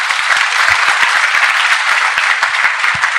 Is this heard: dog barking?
no